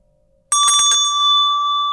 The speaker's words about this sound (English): Did you hear that bell? I did. I'm still listening to it ring. Oh, okay. Has it stopped ringing yet?